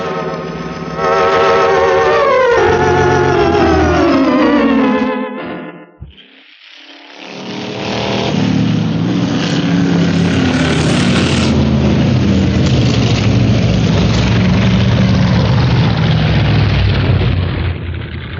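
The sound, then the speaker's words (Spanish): Two large armored cars of Miklos Rogasis with engines running pass through the opened gate of the Quinta Azar: a loud motor whines and drops in pitch, cuts out briefly, then a deep, sustained rumble of vehicles driving, with no voices. “La verja de la Quinta Azar ha sido abierta para dar paso a los dos grandes autos blindados de Miklos Rogasis.”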